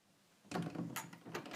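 A door is pushed shut after a brief quiet moment, with a scraping slide followed by a few soft knocks and a latch-like click.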